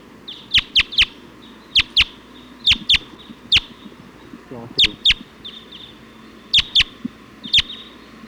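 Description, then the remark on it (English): A flock of about 20 wild Type 2 birds calling, perched at the top of a pine tree, recorded at point 279. Sharp, high chirps repeat in quick irregular bursts, often in pairs, over a faint background hum. “Point at 279 and wild birds come in.”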